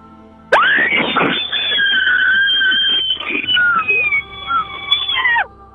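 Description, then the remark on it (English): A loud, sustained human scream lasting about five seconds in a screaming contest, harsh and distorted as it overloads a phone's microphone, with a tinny, band-limited quality and no talking over it. “That is so loud that her phone cannot even process she it.”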